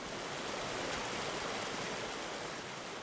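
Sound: creek water flowing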